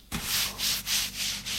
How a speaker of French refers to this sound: Il se déshabille.